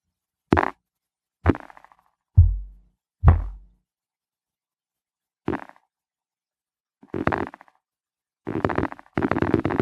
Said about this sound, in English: And as you can see with this model, it's like a percussive model, and it's intended to play snare rolls with one or more fingers. drum rolls.